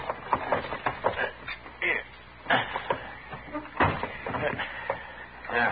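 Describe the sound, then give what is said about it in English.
A warped wooden door is shoved and banged shut with several heavy thumps, scrapes and rattles before it is locked, and a faint voice is present in places. “Because the door is warped, Mr. Dillon. You'll have to shove onto it so I can get it locked.”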